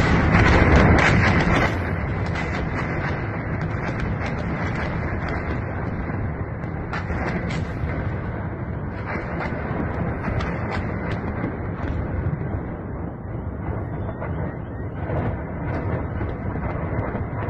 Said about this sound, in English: we have images and we have reports from people hearing the bombardments in Kiev, and it's the biggest bombardments we've had in the whole conflict. This is poorly captured by the camera, but you can guess the amount of bombardment that's behind this.